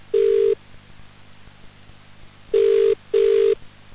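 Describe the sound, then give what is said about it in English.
A telephone ringback tone heard from the caller's end of an outgoing call to a prize finalist: one steady buzzing ring, a pause, then two more rings in quick succession, clear and fairly loud with no talking. “Going to make a phone call. The same rules apply. Must answer within 5 rings and must say those words.”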